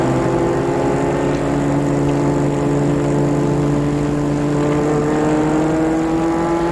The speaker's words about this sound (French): La voiture prend la petite rue.